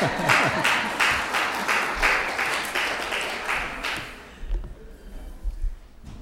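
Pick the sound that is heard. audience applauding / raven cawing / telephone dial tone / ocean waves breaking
audience applauding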